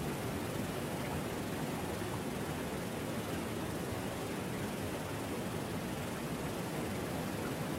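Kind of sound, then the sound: nature, rushing waterfall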